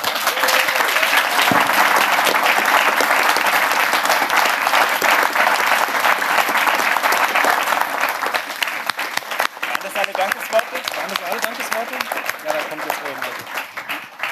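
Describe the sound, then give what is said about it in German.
Loud, sustained applause from a large audience, dense steady clapping filling the whole stretch, with some cheering voices mixed in and a slight thinning toward the end. “Ich hoffe, ihr habt euch den dicksten Applaus noch aufgespart.”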